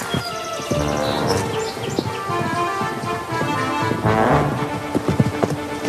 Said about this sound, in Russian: Цыган вскакивает на жеребца и пытается уйти от погони.